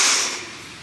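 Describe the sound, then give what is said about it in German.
A deep breath drawn in during a guided breathing exercise, a steady airy hiss that is strongest at the start and eases slightly as it goes on, with no talking. “Und nochmal, einatmen.”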